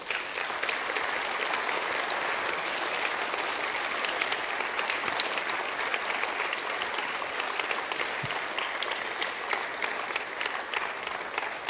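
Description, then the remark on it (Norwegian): Steady, sustained applause from a crowd for the evening's guest as he walks up to the front at a church audience gathering: a dense wash of clapping at even loudness that carries on for about twelve seconds with no voices over it. “Du får en varm applaus på vei opp.”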